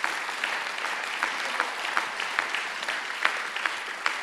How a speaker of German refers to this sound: Und jetzt lasst uns mal einen Applaus geben unserem Herrn.